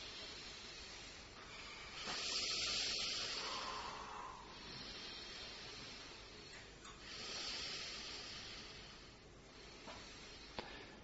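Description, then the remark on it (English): Two slow, deep breaths drawn in and let out during a guided breathing exercise, each a soft airy rush lasting a couple of seconds, quiet, with a faint hushed room around them and no talking. “And inhale deeply.”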